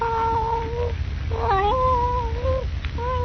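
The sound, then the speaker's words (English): A blue-eyed Siamese cat curled up on a lap lets out long, drawn-out yowling meows, the pitch sliding and stepping up and down across several sustained cries, loud over a low background rumble. “Rooted to the chair, Jimmy stares in frozen, wide-eyed fear at the Siamese cat, which curled up on his lap, looks up at him out of its strange blue eyes.”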